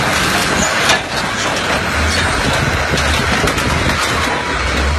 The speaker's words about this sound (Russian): И два бульдозера начинают ехать, и по этим мотоциклам вот прямо сейчас... как это... послушайте этот звук.